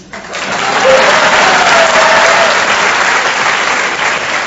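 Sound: audience clapping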